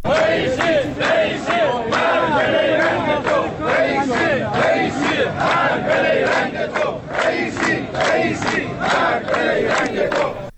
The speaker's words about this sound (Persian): بازنشستگان تامین اجتماعی برای سومین روز پیاپی در شهرهای مختلف ایران از جمله تهران، کرج، اهواز، کرمانشاه، عراق، یزد، شوش و هفت‌تپه تجمع اعتراضی برگزار کردند و شعارهایی علیه ابراهیم رئیسی رئیس جمهور ایران هم سر داده شد.